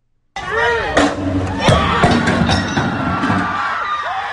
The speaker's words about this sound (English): Okay, now here is the next one. This is LA. This just happened. Again, listen to the cheering.